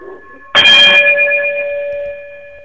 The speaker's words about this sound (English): if you would chime us out as we get ready to prepare for New Abolitionist Radio